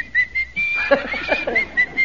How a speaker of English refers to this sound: Yes, sir. You really puckered up there and gave us the old whistle, didn't you?